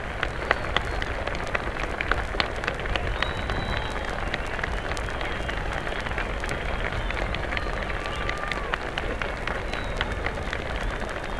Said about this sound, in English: The president is standing there now at the speaker stand, acknowledging the plaudits of the crowd, bowing.